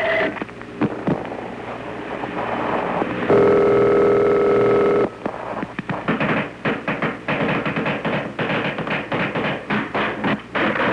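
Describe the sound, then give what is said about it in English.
Rapid, irregular clicks and taps crackle over a tapped telephone line, interrupted midway by a steady humming tone for a couple of seconds before the clicking resumes. “It's no good. They're tapping the line.”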